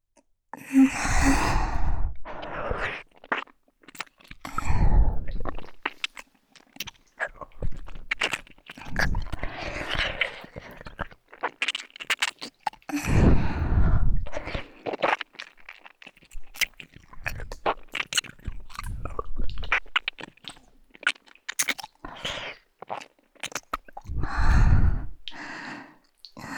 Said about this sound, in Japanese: そろそろ耳を舐めてほしいんですか？わかりました。やってみますね。